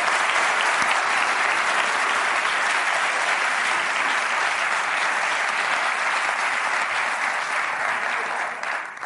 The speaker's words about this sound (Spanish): Vale, muchas gracias a todos por venir. Un aplauso para vosotros por aguantar esta puta mierda. Muchas gracias.